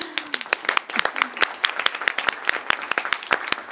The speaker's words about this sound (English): So maybe I would like to have a great applause to our panelists and also our moderator for this session.